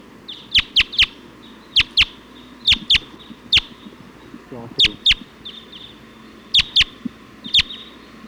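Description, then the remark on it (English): A flock of about 20 Type 2 wild birds, perched at the top of a pine tree, gives sharp, high chirping calls, about fifteen loud notes in irregular pairs and bursts, over a low steady background rumble. “Flock of about 20. Type 2 birds just came in, pointing here at 279.”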